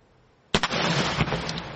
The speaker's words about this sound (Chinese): 好，7月4日是美国的独立节。 为了准备庆祝的活动呢，美国的消费品的安全委员会星期三演示了烟花的破坏力以及造成人员伤亡的潜在可能性。